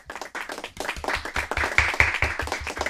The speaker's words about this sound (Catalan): Mare de Déu, quin aplaudiment més merescut.